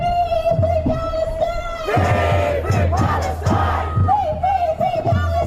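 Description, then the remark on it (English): A large protest crowd of tens of thousands, marching across the Sydney Harbour Bridge against hunger and starvation in Gaza, chants loudly and steadily, many voices shouting in rhythmic unison with repeated rising calls, the roar sustained throughout. “Tens of thousands took part in a historic march across the Sydney Harbour Bridge to protest the hunger and starvation in Gaza amid the ongoing blockade and 2 years of war.”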